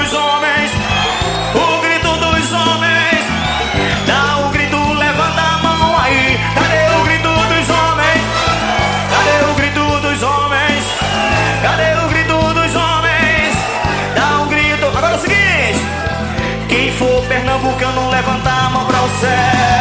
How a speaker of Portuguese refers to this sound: Cadê o grito das mulheres? Cadê o grito das mulheres? Cadê o grito das mulheres? Se gritar vai ganhar um beijo aí. Cadê o grito das mulheres? Cadê o grito?